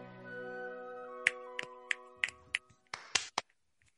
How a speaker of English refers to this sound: Snaps all around, my friend. Snaps all around. Snaps and claps. Nicely done. Two snaps and a kiss. It's two snaps, a twist, and a kiss.